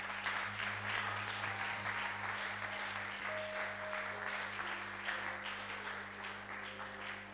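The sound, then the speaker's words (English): A crowd applauds for the Lord steadily for several seconds, a dense wash of many hands clapping that stays fairly even throughout, with a low electrical hum running underneath. “I think you should be clapping for the Lord.”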